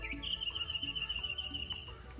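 bird chirping

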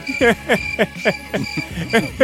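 crickets chirping sound effect

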